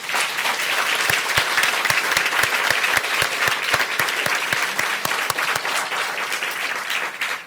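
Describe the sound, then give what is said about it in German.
An audience in Drez applauds loudly and steadily, with dense, sustained clapping and a few sharper, louder claps standing out in a rough rhythm throughout. “Und ich glaube, die Drezer spendieren uns jetzt nochmal einen kräftigen Applaus.”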